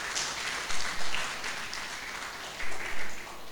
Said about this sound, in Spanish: así que pido un aplauso para los hermanos expositores que nos van a acompañar.